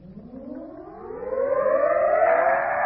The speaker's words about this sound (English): What's that, Daddy? Just the wind. Oh. Blew the door shut.